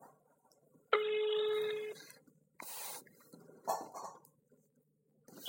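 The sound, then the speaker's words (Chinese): A phone line tone sounds for about a second, steady and fairly loud, as a radio show's call to a guest goes through, followed by scattered clicks and rustling noises with no one speaking. “嗯，咱们现在就进行电话连线了。”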